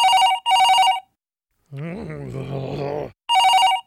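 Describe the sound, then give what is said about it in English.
A telephone rings in loud bursts of electronic trilling, broken up by a low growling groan in the middle before the ringing resumes. “No time for the phone.”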